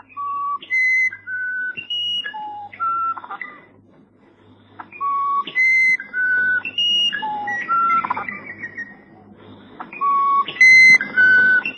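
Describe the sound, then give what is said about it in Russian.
Song of the musician wren (uirapuru), called the Amazonian nightingale, a recording from the collection of Dalgas Frisch: a sequence of pure, flute-like whistled notes jumping between different pitches, forming repeated melodic phrases with brief pauses, clear and loud with no speech. “Самый редкостный трофей в коллекции Далгаса Фриша – песня амазонского соловья Уирапуру.”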